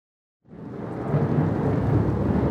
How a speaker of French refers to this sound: La nuit commençait à tomber et un orage allait éclater. J'entendais le tonnerre gronder au-dessus de moi.